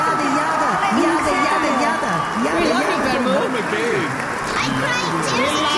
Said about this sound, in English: I've never had such a big enthusiastic crowd like this. Thanks so much, everyone. This is great.